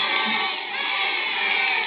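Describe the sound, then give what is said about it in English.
A dense, steady crowd din fills the whole stretch, a loud wash of many overlapping voices with no single speaker standing out and no pauses or breaks. “Nothing yet. Just crowd.”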